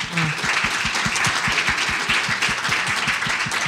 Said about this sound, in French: Ces applaudissements-là, je veux que ce soit au Seigneur parce que il a fait ça dans ma vie.